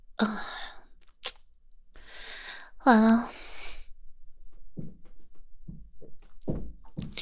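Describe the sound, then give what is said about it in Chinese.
A heavy storeroom door at a trading company, which can only be opened and closed from outside, swings shut with one sharp thunk, followed by a startled gasp, breathy rustling and a woman's brief dismayed speech. “哎，别关门！”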